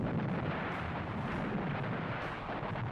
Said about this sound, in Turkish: Gemiler buraya yaklaşana kadar kıyıları top ateşine tuttular. Ancak menzile girdikten sonra tabyadan top atışı başladı.